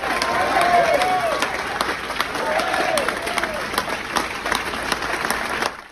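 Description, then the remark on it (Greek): A room full of Wall Street Journal newsroom staff applauding steadily on hearing of a colleague's release, dense clapping with a few excited voices rising over it, sustained before easing off at the end. “Στην εφημερίδα Wall Street Journal, στιγμές ανακούφισης χαράς και με πολλά χειροκροτήματα στο άκουσμα της απελευθέρωσης του συναδέλφου τους.”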